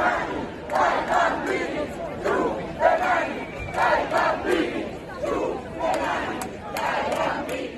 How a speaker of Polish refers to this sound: Tłumy krzyczały na przemian: nie ma zielonej przepustki i ręce precz od naszych dzieci.